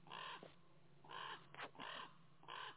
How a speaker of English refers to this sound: Listen to them ravens again.